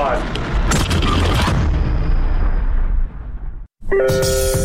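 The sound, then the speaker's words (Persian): A massive, deep explosion, a recreation of the world's first nuclear weapons test made without computer effects for the film Oppenheimer, booms and rolls into a long rumbling roar that slowly fades over about three seconds, then cuts to brief silence before another sound begins. “آیا او برای ساخت اوپنهایمر دست به یک انفجار واقعی زده؟ چیزی شبیه به یک انفجار هسته‌ای؟”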